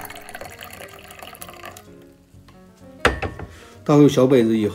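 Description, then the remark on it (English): Tea trickles steadily into small ceramic cups about the size of a double shot glass for a couple of seconds, a light splashing pour, followed by a faint clink and then a voice speaking. “Pour these into your small individual drinking glasses.”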